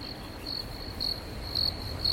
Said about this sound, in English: I certainly hope so, because it's starting to sound awfully silent out there. I can hear the crickets.